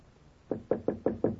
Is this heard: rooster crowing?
no